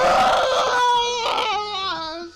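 A loud, high-pitched wailing scream from a single voice, held for a couple of seconds with a wavering, sliding pitch before trailing off, as people in a line, hands on each other's shoulders, run screaming toward a street.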